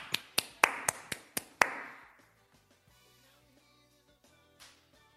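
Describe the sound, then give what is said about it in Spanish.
A short burst of scattered clapping for a band being introduced to close a show: about seven sharp, separate claps in quick succession. It fades into quiet sustained musical tones with no one speaking. “Un aplauso para ellos, por favor.”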